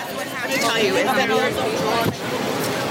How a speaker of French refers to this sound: On les voit discuter entre elles et elles ont l'air trop contentes de se retrouver les unes les autres. Il doit y en avoir plein qui sont représentantes syndicales dans leurs différents hôtels.